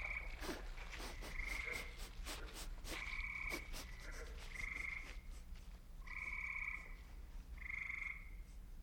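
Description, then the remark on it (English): Frogs croaking in a swamp, a chorus of repeated nasal, buzzy calls in short bursts over a steady low background hum, with no voices. “It is the swamps. Old Berber saying, never turn your back on a frog.”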